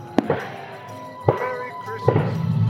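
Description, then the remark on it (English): Three sharp firework bangs go off about a second apart at a nighttime Christmas holiday celebration, with a crowd murmuring and voices chattering in the background between the blasts. “The night ends with season's greetings from George and Martha Washington and stunning fireworks.”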